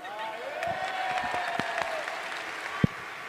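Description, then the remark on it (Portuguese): Audience applause for a blindfolded man who has just walked up to the speaker: a dense, steady patter of many hands clapping together, with a few sharper individual claps standing out and a faint voice-like tone threaded through the noise. “Uma salva de palmas para ele, gente.”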